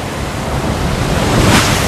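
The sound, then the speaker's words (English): Waves breaking on a beachhead at Omaha Beach, with X-shaped obstacles jutting out of the water, in a steady, loud wash of surf, swelling slightly toward the end, with gusty wind noise over the microphone and no voices. “Now, on a beachhead, X-shaped obstacles jut out of the water.”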